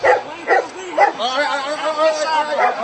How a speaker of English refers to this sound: Oh, there are the dogs. Yeah. Which they do for intimidation. Oh, they're so tough with the German shepherds, just like Nazi Germany.